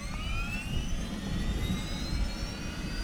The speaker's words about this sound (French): Oui, à 9h30, première alerte, un octogénaire a fait un malaise cardiaque, peut-être un infarctus. L'hélicoptère du PGHM décolle immédiatement. À son bord, l'équipage, plus deux gendarmes secouristes et un médecin infantiste.